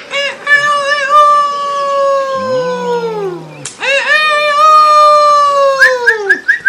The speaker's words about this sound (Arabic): أنت سعيد جدا هذا اليوم أيها الديك. نعم أنا سعيد جدا. أسمعنا قليلا من صوتك الجميل. اسمع.